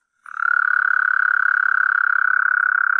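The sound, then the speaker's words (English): A toad gives one long, unbroken trill, a steady high buzzing made of rapid pulses, loud, continuing without pause after a brief silent start. No one speaks. “Actual toad sound.”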